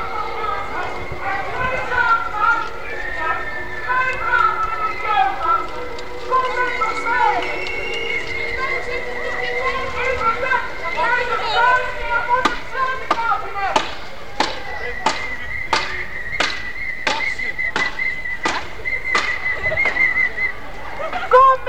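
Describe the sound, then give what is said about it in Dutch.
Outdoor street demonstration in Leiden organised by the FNV union: many voices talking and calling at once. Partway through, steady rhythmic clapping or banging begins, with a sustained whistle-like tone over the crowd. “Ja, nou even wat sfeeropnames qua geluid deze keer over de sightseeing tour door Leiden, georganiseerd door het FNV. Ik ga even langs de demo lopen, zodat ik wat dingen op kan pikken.”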